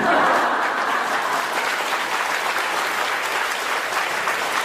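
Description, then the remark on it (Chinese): An audience claps steadily for several seconds, a dense, even patter of many hands at a fairly loud, constant level with no one speaking over it. “男人太少不肯鼓掌。”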